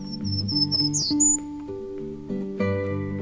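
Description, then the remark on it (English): A Townsend's warbler sings a quick series of high, thin repeated notes ending in a brief slurred phrase, heard over soft sustained background music. “Townsend's warblers forage in the top one-third of a tree by gleaning, hawking, and hovering to capture their prey.”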